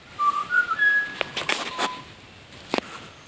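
A butcherbird sings a short run of clear, fluting whistled notes, some gliding upward, with a few sharp chirps scattered through. The song stands out over faint outdoor background noise. The bird is in a big tree in front of a house near Agnes Water, north of Bundaberg, Queensland.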